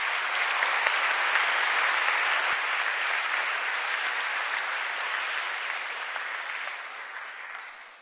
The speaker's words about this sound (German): Einen herzlichen Applaus dafür.